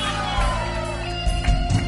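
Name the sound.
audience shouting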